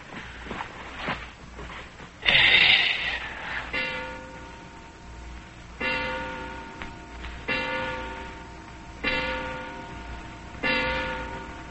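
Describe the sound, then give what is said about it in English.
A wound clock strikes ten o'clock, with about five resonant, evenly spaced chimes heard, each ringing out and fading before the next, after a brief burst of noise. “Six, seven, eight, nine, 10 o'clock.”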